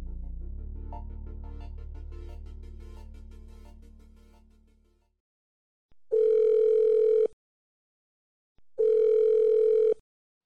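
A phone line rings out twice, each ring a steady, buzzy mid-pitched tone lasting about a second, separated by silence, following a low hum that fades away. No one answers.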